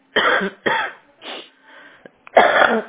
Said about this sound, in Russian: Вот, кашель, блядь, не могу. Задыхаюсь.